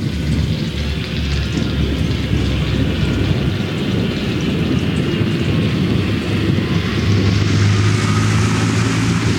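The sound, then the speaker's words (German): A tractor engine drones steadily and loudly throughout, its low rumble thick and continuous, mixed in one recording with the deep growling rumble of thunder. No one speaks. “Wie könnte es epischer sein als mit dieser Mischaufnahme vom Traktorengeräusch und Donnergrollen.”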